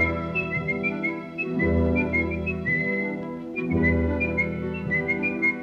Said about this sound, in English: You got a tune to whistle? Good, because you're going to start whistling and kick those feet on down the dusty trail.